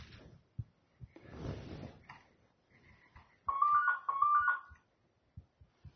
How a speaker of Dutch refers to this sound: Ja, dat was even een kleine onderbreking. De telefoon die ging, maar ik ga weer verder, want ik ben eigenlijk bijna wel klaar.